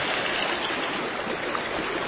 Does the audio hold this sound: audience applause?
no